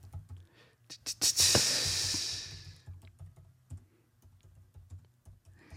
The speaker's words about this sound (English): Can you hear me typing? Yes.